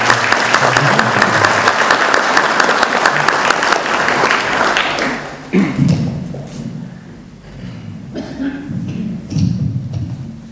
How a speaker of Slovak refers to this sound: tak mi dovolte srdečne potleskom privítať pani riaditeľku Základnej umeleckej školy v Medzeve